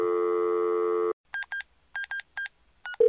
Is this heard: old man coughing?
no